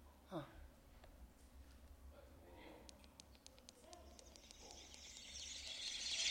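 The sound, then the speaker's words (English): Birds chirping from their nests in a tree, many flying around, in rapid, repeated high twitters, fairly faint over steady outdoor background noise that swells into a hiss toward the end. “Do you hear the bird sound?”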